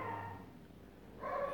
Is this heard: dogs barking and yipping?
yes